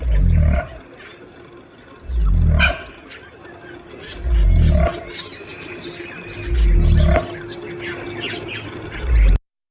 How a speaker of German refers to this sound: Der Kasuar hingegen klingt wirklich irgendwie dino-mäßig. Also, soweit man das sagen kann, wir wissen ja nicht, wie es wirklich war.